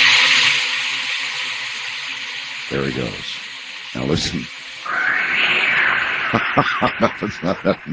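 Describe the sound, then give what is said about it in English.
A sound effect of a cat falling into Mel's well, a deep well: a hissing, whooshing rush, then a run of quick rhythmic pulses at the end, after two brief spoken phrases. “And then there's this second sound when the cat presumably gets down, you know, 5,000 or 6,000 yards or something into the well.”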